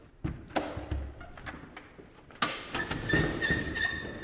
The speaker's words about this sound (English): I'm going to open for you one of the jib doors that leads out onto the south veranda of the cottage. It looks like a normal window, and then there are two panels below the window that open and close like this.